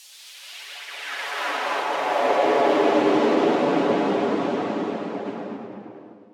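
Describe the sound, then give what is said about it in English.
An airplane glides down with its engine throttled back to land quietly on a plateau, a broad rushing drone that swells gradually to a peak midway and then slowly fades, with no voices. “I'll throttle the engine now and we'll glide down.”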